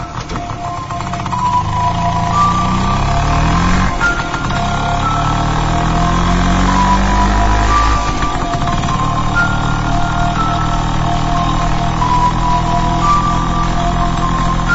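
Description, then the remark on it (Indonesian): A motorcycle engine fires up near midnight and pulls away, ridden fast on an empty road, its loud drone climbing in pitch and dropping back with each gear change as the ride continues steadily. No one speaks. “Tak enak karena sudah janji pada ayah akan datang, aku pun bergegas berangkat dengan motorku.”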